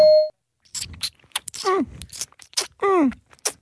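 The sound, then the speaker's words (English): A short electronic beep marking the start of a 20-second timer, then a voice imitating a baby drinking milk from a bottle: wet sucking and smacking noises broken by squeaky, whiny gulps and groans, fairly loud. “Baby drinking milk from a bottle.”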